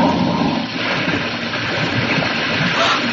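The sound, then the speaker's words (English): A car slides down a muddy slope and crashes into a river, a loud, churning rush of splashing water that roars steadily for about three seconds without letting up. “the car! It's in the river down there.”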